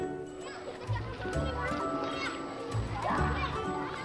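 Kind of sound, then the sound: crowd, children shouting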